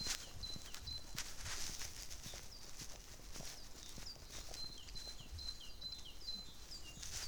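A bird calls repeatedly with short, high chirps and whistles, steady throughout, over a constant background of soft ticking and clattering noise. No one speaks.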